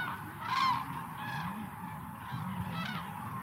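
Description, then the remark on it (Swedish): Common cranes at the bird-rich lake Hornborgasjön in Västergötland call in loud, ringing trumpet-like bursts, about three strong calls in a few seconds, over a steady layer of lower, murmuring bird calls. “Och ljudet av de här tranorna är fångat vid den fågelrika Hornborgasjön i Västergötland, där de stannar till och utför sin trandans.”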